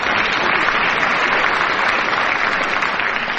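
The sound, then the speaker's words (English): A crowd claps steadily and loudly throughout, a dense sustained wash of applause with no voices standing out. “I shouldn't get a clap for that, because that's one of the operas I've sung in, so I ought to know.”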